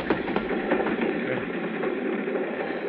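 A moving train rattles steadily along the rails, a dense, continuous rumble and clatter with faint rhythmic clicks, close and fairly loud, with no voices.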